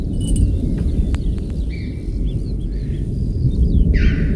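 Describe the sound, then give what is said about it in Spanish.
Deep, continuous thunder rumbles and rolls without a break, heavy and booming as it echoes through the large mountain canyon of Ordesa, with faint high chirps and clicks from choughs and marmots scattered over the top. “Hostia, pedazo de trueno, ¿eh? Es que el cañón es muy grande y lo multiplica por mucho.”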